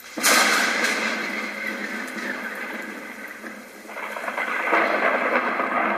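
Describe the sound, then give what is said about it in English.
A thunderstorm sound effect: a sudden loud crack of thunder gives way to a steady hiss of heavy rain, which swells again toward the end. No one speaks. “For a little weather, we like to call the lightning round.”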